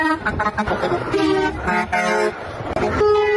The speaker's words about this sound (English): As we've been out here today, so many people have been going by honking, giving us their fists.